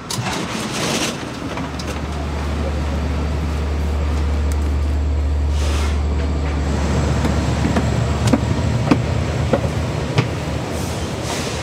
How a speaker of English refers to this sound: We just got onto a fancier train with higher headrests and 2 stories and a bathroom.